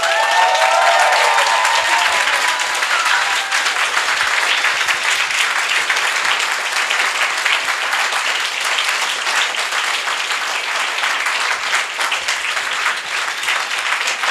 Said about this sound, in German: Und weil ich gerade das Mikro habe, kann ich das kurz diktatorisch auch behalten und den Dank mal denen aussprechen, die bisher noch gar keinen Applaus bekommen haben.